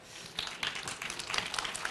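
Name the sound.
audience applause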